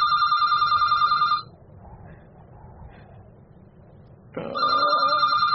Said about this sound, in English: Now, today, I'm 80. And the phone starts ringing.